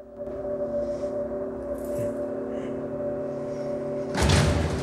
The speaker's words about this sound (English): He turns as Ray opens the door behind him and walks over to it.